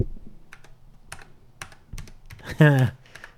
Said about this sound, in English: This Tandy keyboard. And it is also very heavy. I'm going to clack it for the ADSM folks out there.